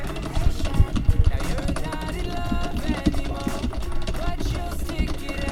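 Rapid, irregular clacking of keyboard keys being mashed hard while playing a fighting game, a dense stream of sharp clicks layered over loud, busy game music with sustained tones.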